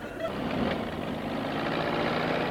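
A heavy bulldozer knocking down a shack rumbles and churns steadily, a loud, continuous low diesel drone with a gritty mechanical texture and no distinct crashes or pauses.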